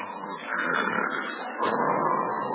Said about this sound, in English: Holy smoke, she snores. Oh, no, no, she never told me about this. With a whistle yet.